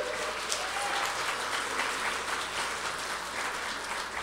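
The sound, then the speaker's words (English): Steady, dense applause from a large audience for mothers on Mother's Day, many hands clapping at once in a continuous wash of sound that holds at an even loudness throughout, with no voices standing out. “So let's give a round of applause for our mothers.”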